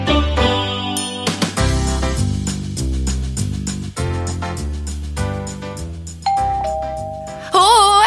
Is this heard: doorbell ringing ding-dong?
yes